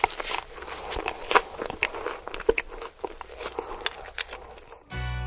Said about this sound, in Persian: به نظر من بهترین و دلپذیرترین صداهای دنیا صدای گاز زدن مرغ سوخاریه.